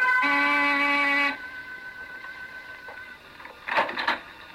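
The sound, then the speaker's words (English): A door buzzer at 15 Cantilever Walk, a big gray stone house, sounds in one loud, steady, harsh tone lasting about a second, rich in buzzy overtones, then cuts off, leaving a faint hum and a brief rustle afterward. “I rang the door buzzer.”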